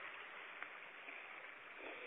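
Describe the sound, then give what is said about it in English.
A steady, continuous rush of flowing stream water outdoors in spring, soft and even throughout with no voices, like a small creek babbling. “Allowing for, I hope you can hear the water and the birds, allowing for these magnificent sounds, the songs of nature to fill your well.”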